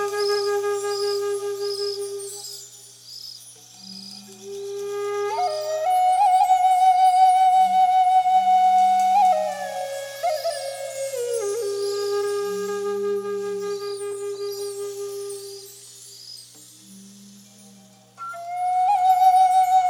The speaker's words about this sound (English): To help free the mind from that discursive verbal thinking and to make it easier to enter the meditative state, it can be extremely useful to focus the mind instead on a sound, like the sound of this wood flute.